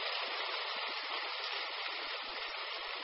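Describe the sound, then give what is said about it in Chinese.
Soft, steady applause from an audience at a speaker's talk, a continuous dense patter of clapping that neither swells nor fades over about three seconds, with no voices. “好，我台长听惯了上万人的鼓掌，跟你们开玩笑，因为你们的声音啊虽然小，但是都是用心鼓出来的，就很感动。”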